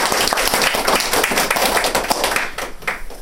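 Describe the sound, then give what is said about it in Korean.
An audience at a recovery testimony gathering claps steadily, a dense patter of many hands that thins out toward the end, with no one speaking over it. “박수를 한번 다시 하나.”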